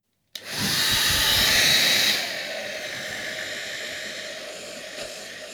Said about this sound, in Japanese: さあ、あとはお髪を乾かさせていただきますね。低出力のドライヤーでゆっくりとさせていただきます。